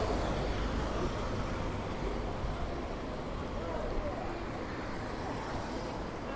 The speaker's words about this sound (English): Wait for these buses and things to go.